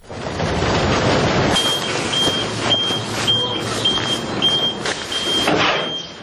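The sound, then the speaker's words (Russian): Orange garbage trucks arrive at a landfill on the outskirts of Tbilisi, Georgia, to dump garbage: a heavy truck engine rumbles while a steady series of high reversing beeps repeats at an even pace, with occasional clanks and hisses. “Оранжевые машины подъезжают к мусорной свалке на окраине Тбилиси.”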